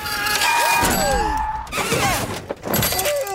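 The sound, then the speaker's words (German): A bicycle crashes into the front of a car: a screech of brakes, then a heavy thud and metallic clatter, followed by scattered rattling as debris settles. Loud, no voices. “Man stürzt sich mit dem Fahrrad einfach direkt vors Auto von Mrs. Boss.”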